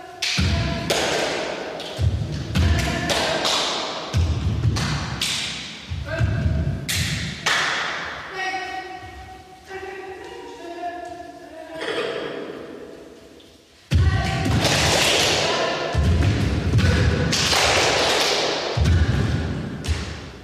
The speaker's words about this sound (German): Dann klatscht sie den Rhythmus. Erst jeden Schlag, dann nur jeden zweiten. Wir machen es ihr nach. Nach und nach entsteht eine Choreografie aus Klatschen und Stampfen und vor allem aus Pausen.